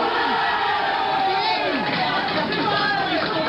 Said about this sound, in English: Chairman, door is opened. A huge crush at the doorway. Can't see exactly what's going on inside.